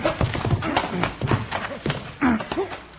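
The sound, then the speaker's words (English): Horse hooves clip-clop in an uneven series of sharp strikes, with brief voiced calls mixed in over a dull background rumble. “Now, come down off of that horse.”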